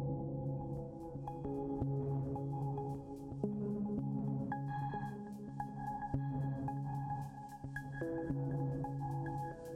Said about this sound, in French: c'est une petite séquence qui tourne, qui fait toujours les mêmes notes avec un blanc. Ça fait un son de basse, mais à un moment donné, ça s'arrête et ça reprend comme une espèce de truc qui revient en arrière à chaque fois et qui recommence.